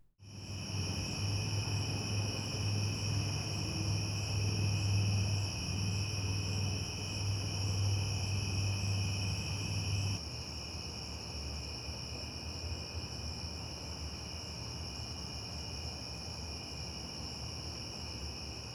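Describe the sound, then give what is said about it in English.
Dense, steady chorus of crickets trilling continuously in high, sustained bands, recorded with a Rode stereo microphone and compared in its mid-side (MS) position, with a low hum underneath for the first half before it drops out and the night ambience continues evenly. “Crickets with Rode and crickets with MS.”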